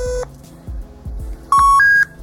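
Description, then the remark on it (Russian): Electronic telephone dialing beeps while calling Parker: one short tone at the start, then two steady tones in quick succession near the end, stepping up in pitch, over a soft, regular low thumping in the background. “Звоним Паркеру.”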